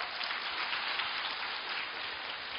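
Steady, dense crackling of many hands clapping, a continuous applause wash with no individual claps standing out, holding an even loudness throughout with no voices.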